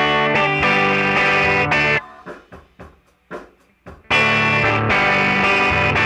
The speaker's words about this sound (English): Then there's overdrive, which you can think of as the sound of an amp turned up just to the point of breaking up.